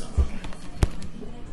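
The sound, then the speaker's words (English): Buttons on a remote are pressed to punch in a number, with one sharp click and a few softer taps around it, alongside low thumps of handling and a faint background hum. “Looking for the remote. Punching the number.”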